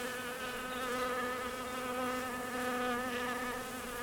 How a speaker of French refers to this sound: Je me trouve dans une baignoire remplie d'eau miellée et j'ai sur moi peut-être quelques centaines, voire quelques milliers d'abeilles qui me lèchent parce que ma peau est enduite d'eau miellée.